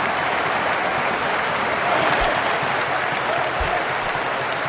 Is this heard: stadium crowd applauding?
yes